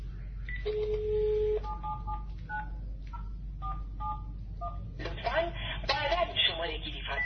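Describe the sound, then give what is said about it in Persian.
A steady dial tone, then a quick series of short touch-tone beeps as a doctor's office line is dialed, followed by a recorded voice on the line asking to dial again later; the office phone lines are cut off after repeated power outages. Fairly clear. “تلفنی که من الان میگیرم نگاه کنید، مثلا یه خطی رو میگیرم، لطفا بعدا شماره گیری فرمایید. بله این یه خط مطب هست و اینم یه خط دیگه مطب.”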